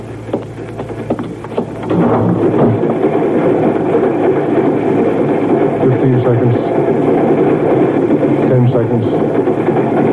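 A moving train rumbles steadily, its low, continuous roar swelling in after a quieter opening and holding loud throughout with a faint rhythmic clatter underneath.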